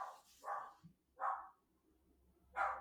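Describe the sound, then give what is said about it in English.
A dog barks four times in short, sharp bursts with uneven gaps between them, fairly quiet, with no talking. “Oh, sorry, the dog's off again.”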